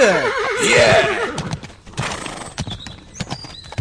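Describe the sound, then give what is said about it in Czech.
A horse lets out a loud, quavering whinny, then hooves clip-clop in an uneven, steady patter as the horses are urged on, with no one speaking. “Pojď, popoženem koně.”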